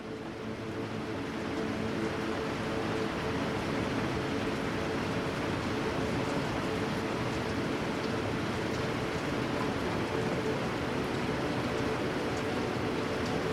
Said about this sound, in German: Und während du dem Regen lauschst und dem Wasser